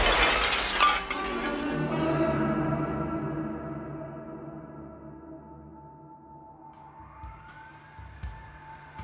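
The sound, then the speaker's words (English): A window shatters in a loud crash, glass tinkling and ringing as it fades over a couple of seconds, followed by a faint siren rising. “Shards of glass are lodged in his face.”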